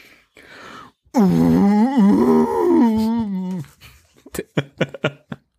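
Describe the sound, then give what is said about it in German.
A person loudly imitates a car engine sputtering as the ignition key is turned for the fifth time, sounding like a female elephant's mating call, a wavering, groaning wail lasting a few seconds, followed by a quick burst of short, choppy sounds. “Als er den Zündschlüssel zum fünften Mal umdrehte, komm schon, Baby, schießt der Motor ein Geräusch aus, das sich wie der Brunftschrei einer Elefantenkuh anhörte.”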